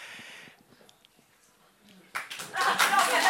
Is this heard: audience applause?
yes